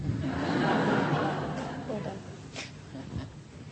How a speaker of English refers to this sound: Hail from my yard during that storm.